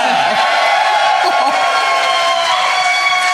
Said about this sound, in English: And I'm not 100% sure if my mother-in-law screamed in excitement at that or didn't understand it.